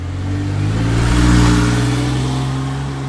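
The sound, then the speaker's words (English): A Porsche flat-six engine with no turbo or supercharger revs loudly, its deep guttural growl swelling to a peak midway before easing back down, with no voices. “Porsche engines famously have what we call a flat six engine in them, meaning there's no turbo or supercharger on it, and it's just this really thrilling guttural growl.”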